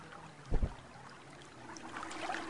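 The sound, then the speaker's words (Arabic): Rushing river water, parting to both sides, fills the scene with a broad, steady hiss, broken early by a brief deep surge and gradually swelling louder toward the end, with no voices. “ابويا ايليا، الميه اتقسمت على الجنبين زي ما حصل مع موسى النبي بالظبط.”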